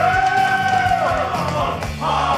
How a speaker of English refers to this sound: Better cheer than yesterday. Oh, listen to this. They love you.